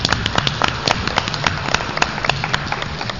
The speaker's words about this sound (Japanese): それでは、日本盲導犬協会の皆さん、どうぞよろしくお願いします。 よろしくお願いします。 拍手で皆さんお迎えください。